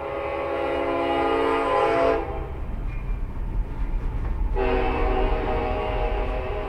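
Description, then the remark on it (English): A train on the Union Pacific Railroad main line rumbles past a grain cooperative in Hayes, north central Kansas, its horn sounding two long, loud blasts separated by a brief gap, with heavy low rolling noise throughout and no voices. “The main location sits right next to the Union Pacific Railroad's main line in Hayes.”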